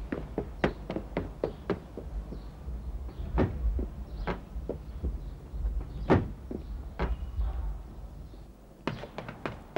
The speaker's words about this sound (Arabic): أنا أفتح الباب.